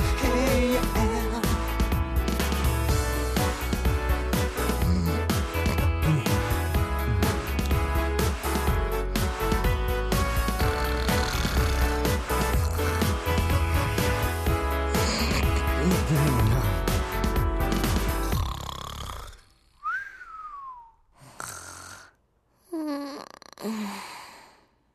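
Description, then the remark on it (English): A Mandarin pop duet about snoring, played on the radio station Asian Wave 101, plays loud and full with steady backing music, then cuts off near the end, leaving a few isolated breathy sighs and gasps in near silence. “An interesting song.”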